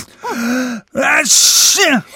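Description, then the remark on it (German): A loud, drawn-out sneeze: two rising, breathy 'ah' intakes build up, then a sharp hissing 'choo' burst with a voiced tail, sounding exaggerated and theatrical. “Ach, das klingt super, aber ich muss gleich niesen.”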